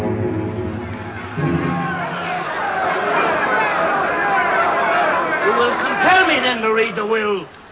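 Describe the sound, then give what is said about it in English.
A large crowd assembled at the Forum murmurs and chatters continuously as Mark Antony shows them Caesar's murdered body, a dense babble of overlapping voices that swells slightly, with a few louder individual voices rising out of the hubbub near the end. “Now, on the steps of the Forum, Mark Antony shows Caesar's murdered body to the assembled crowd.”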